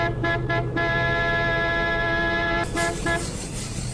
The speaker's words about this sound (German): und drück auf die Hupe, was du kannst.